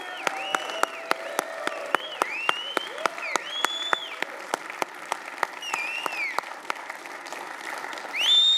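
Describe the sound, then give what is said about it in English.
A crowd applauds steadily for people standing up after praying to make a commitment, sharp individual claps cutting through the dense clapping, while whistles and shouted cheers rise and fall throughout, swelling louder in the final moment. “Come on, let's cheer these guys on.”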